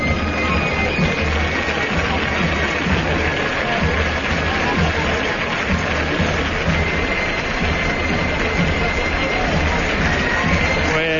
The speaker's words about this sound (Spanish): Continuo aplauso, ovación por todo, porque la verdad lo que estamos viendo es algo diferente, único, llamativo, la plasticidad, la luz, el colorido, la música, se mezclan los aplausos y tantas sensaciones.